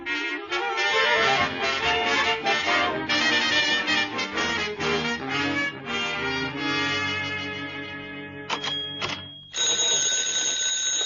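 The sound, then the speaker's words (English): A telephone rings loudly, a rapid, continuous metallic bell trill that sounds for several seconds, briefly breaks off, then starts again. No one speaks. “I'm just come back, but already my phone is ringing.”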